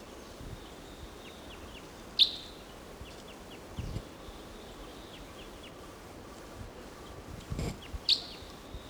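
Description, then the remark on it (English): Wild crossbill calls, recorded at about 10 o'clock: two sharp, clear kip notes several seconds apart, with fainter chips scattered between them over a soft, steady outdoor background. “There's a wild crossbill here, a different one, or maybe the same one much later.”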